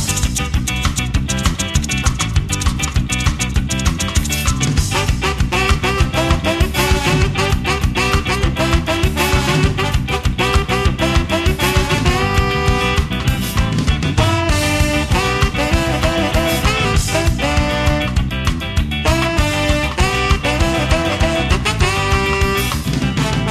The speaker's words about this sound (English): But anyway, here it is. … by ….